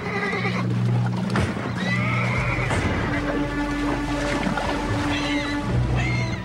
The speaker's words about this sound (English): canters along the shore, whinnying to her foal.